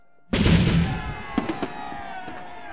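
Cannons fire as the Lord Mayor and a procession of barges make their way to Westminster: a loud cannon blast booms out and rolls away in a long echo, followed by several quicker, fainter reports.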